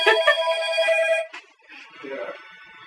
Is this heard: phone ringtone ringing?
yes